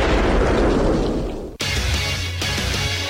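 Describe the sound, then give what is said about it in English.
Loud fireworks explosions from Boom Boom Billy's monster fireworks: a long roaring boom cuts off abruptly, then a second heavy blast erupts with a deep rumbling tail. No voices are heard. “You won't believe how big of a boom you can make with Boom Boom Billy's monster fireworks”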